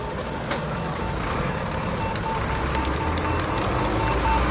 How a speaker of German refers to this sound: findet die Furt und Ampel dank Leitstreifen und akustischem Signal und überquert die Kreuzung sicher